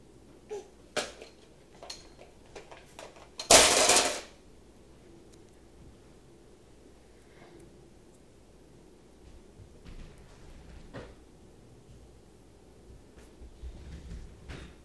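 banging on a door

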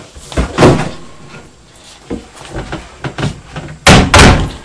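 door banging shut

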